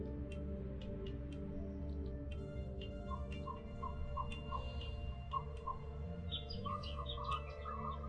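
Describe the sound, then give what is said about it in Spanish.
Short, repeated bird chirps and tweets sound over a steady, dense low hum, likely background music or ambience, with a few faint ticking clicks mixed in. “Observe los pájaros volando de un árbol a otro y entre las ramas. Escuche su canto.”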